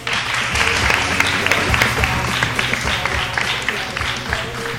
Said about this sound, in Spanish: Un fuerte aplauso.